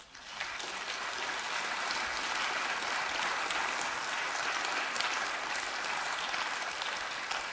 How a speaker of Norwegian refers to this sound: Du får med deg en applaus på veien opp.